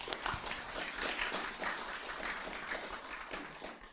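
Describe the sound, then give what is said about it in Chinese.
A crowd applauds steadily for about four seconds, a dense wash of many hands clapping at a fairly even level with no voices standing out. “谢谢， 掌声。”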